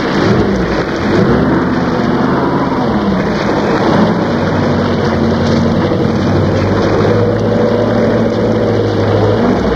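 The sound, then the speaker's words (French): An old van's engine rumbles low beneath steady, heavy rain during a storm, its pitch shifting as it pulls up, slows and settles into an idle in front of a cave. “Au bout d'un moment, une vieille camionnette s'arrêta devant la grotte.”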